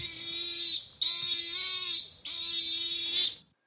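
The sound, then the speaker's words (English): A baby bonobo lets out three long, shrill, wavering cries, each about a second, separated by brief pauses. The calls are loud and piercing, with no one talking. “Poor baby bonobo.”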